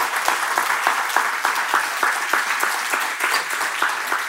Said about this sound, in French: Hey, c'est fort. On peut applaudir.